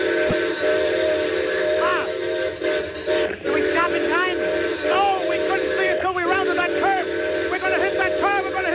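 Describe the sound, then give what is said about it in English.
A train carrying a load of gold blows its whistle loud in one long, unbroken blast at a grade crossing where a car is stalled, its steady chord droning for the full length while muffled voices rise and fall underneath. “There's a car stalled at grade crossing. I know, I see it. Well, the whistle, quick, quick.”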